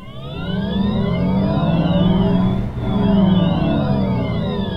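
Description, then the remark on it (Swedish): A Volkswagen ID3 electric car's motor whines in rising, layered tones as it accelerates. The pitch drops as it brakes to a brief low, then climbs again. Steady, with no voices. “Ja, så låter en bil när man gasar och bromsar. I det här fallet en Volkswagen ID3.”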